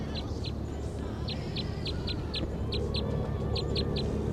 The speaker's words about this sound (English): This is a wild bird. Orange male. Looks like it has a bill across to the left. Wild bird.